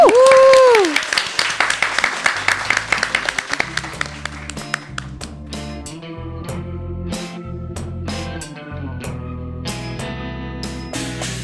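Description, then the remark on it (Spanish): An audience bursts into loud, dense applause with a rising cheer at the start; the clapping thins out after a few seconds as a song with steady drum hits begins. “Para un aplauso. Sala.”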